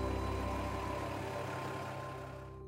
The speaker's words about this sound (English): You see how critical the transportation is. Here's one of the trucks pulling out.